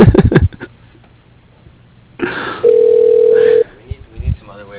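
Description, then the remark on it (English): A telephone rings once with a steady, mid-pitched electronic tone lasting about a second, preceded by a burst of hiss, with people talking before and after it. “Phone rings.”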